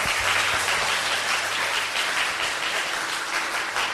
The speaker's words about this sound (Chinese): 就在后面这位，就是早晚课哈，做维挪带领大家，我们跟他一个感恩的掌声哈，阿弥陀佛。